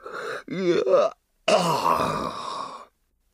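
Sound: yawn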